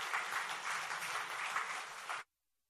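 A church audience applauds steadily for about two seconds to encourage a woman coming forward to give a testimony, a dense wash of many hands clapping at once, fairly loud, then it stops abruptly into silence.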